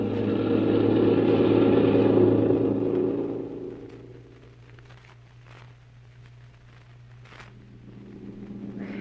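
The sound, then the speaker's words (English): A car engine roars loudly for a few seconds as the car is driven faster, then the roar drops away to a low, steady motor hum with faint rattles. No one speaks. “How about driving a little faster?”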